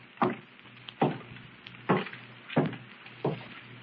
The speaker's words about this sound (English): Footsteps. Someone's upstairs. No doubt about it.